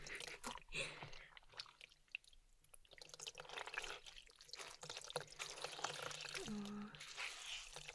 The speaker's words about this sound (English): I totally didn't just drop water all over the floor, but that's between you and I. I'm washing my hands in the water.